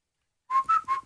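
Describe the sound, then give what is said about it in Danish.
Someone whistles a brief three-note tune, the clear notes stepping slightly up and back down after a moment of silence, with no talking. “Men vi vil jo ikke fløjte,”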